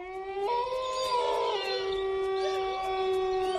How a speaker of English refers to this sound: like chase lizards and howl at the moon. He became as good a coyote as any.